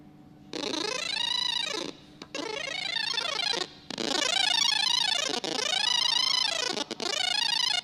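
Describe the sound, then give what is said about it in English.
A buzzy electronic tone from a programmed device, its pitch set by the accelerometer's x reading as the device is tilted, swoops up and down in smooth arcs, running in four long loud stretches split by brief gaps, somewhat like a wailing cat, with no talking. “Strangled cat. Or instant musical instrument.”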